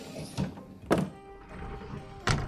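A wardrobe door being opened, with three dull wooden thunks spaced unevenly across a couple of seconds, fairly quiet against a faint hum.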